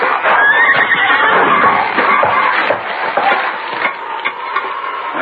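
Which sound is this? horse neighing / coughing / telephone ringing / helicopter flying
horse neighing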